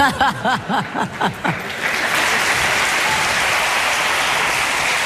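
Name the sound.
audience applause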